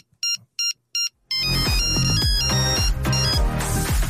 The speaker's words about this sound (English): Ah, the old Nokia ringtones. You couldn't beat them with a shtick. That's called Groovy Blue. Groovy Blue is the name of the note.